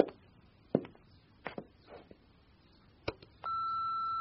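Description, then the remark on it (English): A telephone starts ringing with a steady, loud electronic tone that holds to the end, after a few scattered clicks and knocks in otherwise quiet surroundings. “Jen. The phone.”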